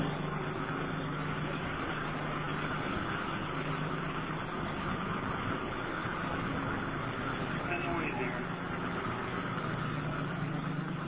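Steady, continuous car engine noise with a low rumbling hum, loud, running without pause for the whole stretch like an idling vehicle.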